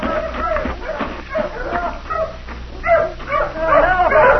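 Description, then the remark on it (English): Several hounds bark, yip and whimper in rapid, overlapping bursts, fairly loud, growing more frantic toward the end, after finding someone in a thicket. “Get your dogs off me! Pull your dogs off, mister!”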